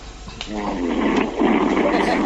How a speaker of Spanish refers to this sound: Está echado. En el mejor. Está roncando, dejarle.